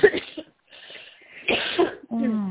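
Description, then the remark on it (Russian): A few harsh coughs come in two bursts with a short pause between them, followed by a brief stretch of a voice. “Тоже кашель смотрю.”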